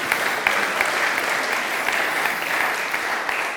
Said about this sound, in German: Ja, ein Applaus.